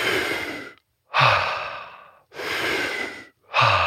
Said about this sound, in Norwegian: Så når man gjør denne teknikken, så det liksom, så gjør man den ikke 1%, men man gjør den 100%. Altså, hvert eneste pust er en ekspandering av innpustet.